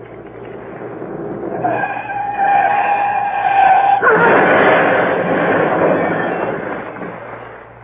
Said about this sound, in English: Reported in stolen car. Large green Daimler speeding south.